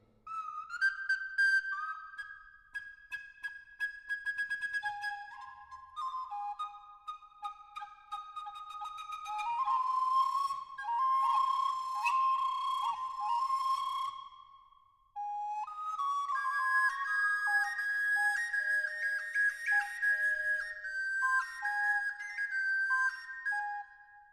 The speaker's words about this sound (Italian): Concert de différents oiseaux.